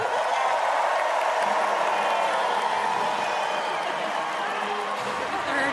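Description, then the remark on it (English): Sustained, dense applause from a large crowd giving a standing ovation for Illinois Governor J.B. Pritzker on his Inauguration Day, before his inaugural address, a steady roar of clapping with cheers mixed in, loud and unbroken throughout. “The audience here is on their feet, applauding a standing ovation for J.B.”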